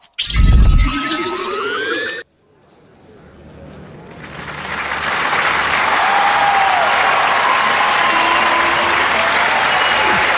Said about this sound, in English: Thank you, thank you. Thank you so much for the applause.